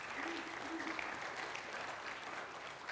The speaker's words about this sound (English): Yeah, give that a round of applause. That's super awesome.